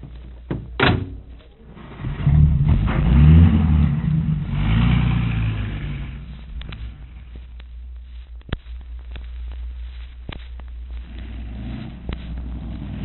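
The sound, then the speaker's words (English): A car door thunks shut, then a car engine roars up and accelerates away, its low rumble swelling before settling into a steady drone as it drives off. “Now, here's the car. Hop in.”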